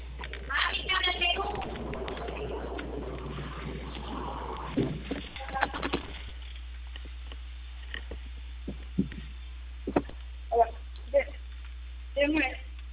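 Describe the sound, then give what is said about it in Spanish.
Birds coo in short, separate bursts toward the end, moderately loud, after a busier stretch of muffled voices and household noise over a steady low hum. “Llévase las aves, corre, corre.”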